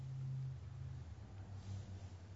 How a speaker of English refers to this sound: If you're really open to the present moment, then you hear the sound of the traffic just now. You don't have to be told, pay attention to the traffic. It just, that's what arises.